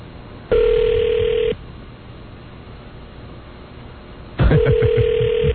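A telephone call placed during a radio show game ringing on the line: two long, steady, mid-pitched ring tones separated by a few seconds of quiet hiss, with no one speaking.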